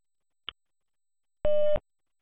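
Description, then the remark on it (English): A single short, steady electronic beep of a German-language speaking clock's time signal marking 4:32 and 20 seconds, preceded by a faint click in an otherwise silent moment, with sharp clicks as the tone starts and stops. “Beim nächsten Ton ist es 4:32 und 20 Sekunden.”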